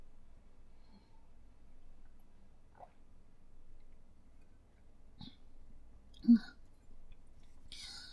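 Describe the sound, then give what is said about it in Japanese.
Someone drinks water just after waking up: faint mouth clicks, then a couple of soft swallowing gulps and a small bottle or cup sound, with no talking. “その前にお水飲む。”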